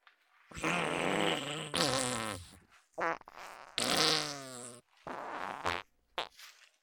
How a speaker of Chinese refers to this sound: 啊，对不起主人，我们专心帮主人搓背，专心放屁给主人闻。